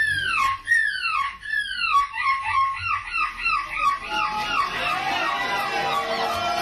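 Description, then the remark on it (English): A 9-year-old boy in a seagull costume imitates a seagull at the annual European Gull Screeching Championships in Belgium, with a rapid series of high, sharply falling screeches, loud and repeated about twice a second, blurring into a denser, noisier wash toward the end. “wowed the judges with this seagull impression.”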